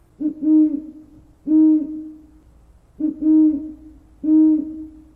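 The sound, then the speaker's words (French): An owl hoots four times in a steady, evenly spaced rhythm, each call a low, rounded two-part note, clear against a quiet background. “Les hiboux.”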